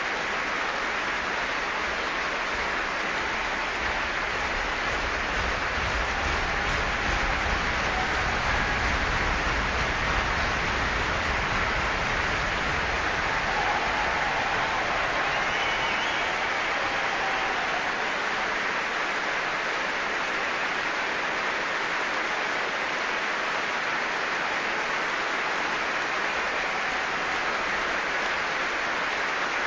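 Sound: concert hall audience applause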